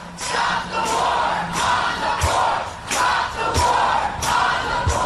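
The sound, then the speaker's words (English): A large crowd at a Poor People's Economic Human Rights Campaign march chants the slogan "stop the war on the poor" in unison, voices rising and falling in a steady repeating rhythm, with sharp beats punctuating each phrase, loud. “They're chanting, if you can't make it out, stop the war on the poor.”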